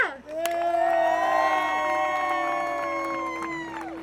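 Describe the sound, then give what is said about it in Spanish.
A crowd of protesters at an interprovincial rally shouts the slogan "¡Basta de quemas! ¡Ley de humedales ya!" (Stop the burning! Wetlands law now!) together. Many voices rise into one loud, sustained cry that holds for several seconds before tapering off. “De a poco somos cada vez más de que nos juntamos a gritar ¡Basta de quemas! ¡Ley de humedales ya!”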